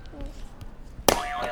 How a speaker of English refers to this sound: Do you want to press a buzzer for me?